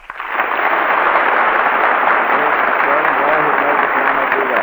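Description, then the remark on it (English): A large audience breaks into loud, sustained applause that swells within the first moment and holds steady, a dense wash of clapping with faint voices mixed underneath, applauding as contestants' names are called to select the winners. “And as I call the names, I'm going to ask you to kindly applaud once again and select your winners, if you will, please.”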